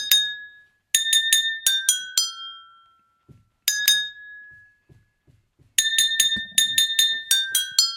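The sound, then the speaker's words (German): Drinking glasses are tapped with beaters one after another, ringing out clear bell-like notes at different pitches to pick out a song melody in short phrases with brief pauses. The taps are bright, with no talking. “Es war sehr schön, dich konzentriert die Gläser beklöppeln zu sehen.”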